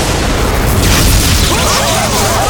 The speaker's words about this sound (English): And I warn you that I will not offer any more warning blasts!